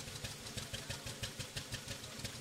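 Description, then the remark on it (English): A small engine runs steadily with a fast, regular mechanical pulse and a whirring gear rattle layered over it, fairly loud, with no talking; the vehicle is stationary, its chain-driven back wheel held still while the engine rotates and the planetary gearbox turns backwards. “The engine is rotating, and so the gearbox is all going backwards.”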